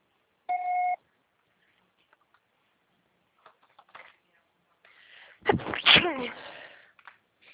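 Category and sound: signal or alarm, answering machine beep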